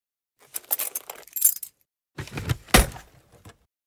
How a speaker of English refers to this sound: Omri tried many keys.